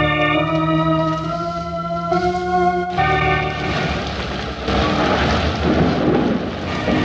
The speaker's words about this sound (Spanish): Se avecina la tormenta. Los relámpagos y truenos rasgan la oscuridad de la noche y su estruendo retumba entre las grandes rocas que rodean el campamento.